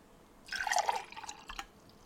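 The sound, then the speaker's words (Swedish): Water, either warm or cold, pours into a glass during a listening test in a short splashing burst of bright, bubbly trickling lasting about a second, followed by a few faint drips as it settles. No one speaks. “varmt eller kallt vatten som hälls upp i ett glas”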